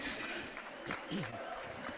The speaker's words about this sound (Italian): non ne ha più Vasquez. Qualche applauso dalla tribuna, lo merita. Per ora è l'uomo che sta decidendo questa partita, quando siamo giunti ormai al minuto numero 40 del secondo tempo.